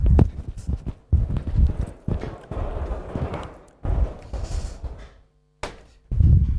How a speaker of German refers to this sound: Ich mache einfach mal kurz die Tür zu.